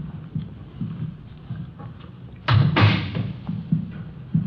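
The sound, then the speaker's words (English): Soft, rhythmic thuds like footsteps, then a sudden loud rattle and rush as a door is pulled open midway, followed by more low bumping steps. “I'll get the door.”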